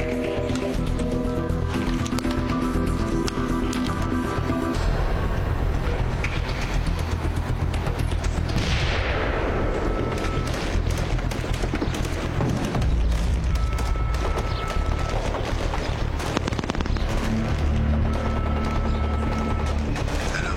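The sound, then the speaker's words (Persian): Loud, chaotic battle noise: rapid bursts of gunfire crackle almost continuously, punctuated by deep explosive booms and a rushing whoosh, with a droning rumble underneath. “انفجار تیراندازی میاد، فکر کنم موفق شدم.”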